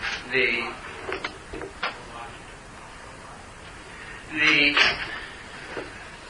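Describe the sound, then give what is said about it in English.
A door creaks and squeaks on its hinges as it swings, with a few soft knocks and clicks in between, then a second longer creak as it's pushed closed. “I'm just going to go over and close the door because it's a little bit of a distraction.”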